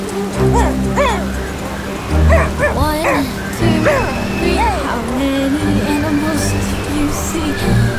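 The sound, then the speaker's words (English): A dog, Doggo, gives a string of short, high yips and whimpering whines that rise and fall in pitch, fairly loud, over a steady low rumble in the background. “Doggo nestled up close as I grabbed the wheel.”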